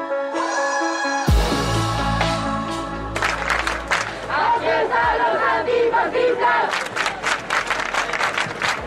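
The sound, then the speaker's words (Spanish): A large protest crowd at a night-time demonstration in the Puerta del Sol chants and shouts together in a loud, continuous roar of voices, with rhythmic bursts of cheering and clapping toward the end. “Así es como sonaba anoche la Puerta del Sol en una manifestación convocada después de la denuncia del chico de Malasaña, cuyo relato se ha confirmado falso.”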